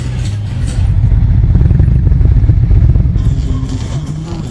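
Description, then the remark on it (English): Small mini motorcycles styled like race bikes buzz and rev continuously at the starting line of a mini bike racetrack, a dense mechanical drone with some clattering, steady and loud throughout with a slight shift near the end. “There's little bitty motorcycles that look like race bikes, so they're fixing a race, so you'll hear them coming around here in a minute.”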